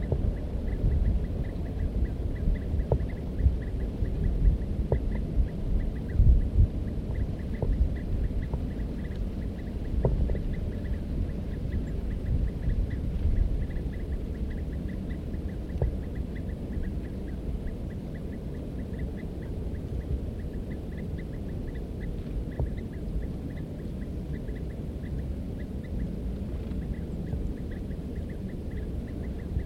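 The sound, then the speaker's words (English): Birds call faintly and intermittently, a few short scattered notes, over a steady low rumble with a faint high repeating tone. No one speaks. “Recording the birds again.”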